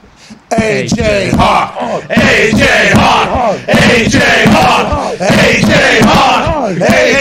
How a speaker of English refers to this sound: Hey, man, it's great to have you here, and I'm excited about how much you love that AJ Hawk chant because it brings energy to every single place it's a part of.